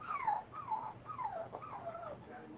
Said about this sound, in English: Well, he got a poor dog barking in the background, so I don't think so.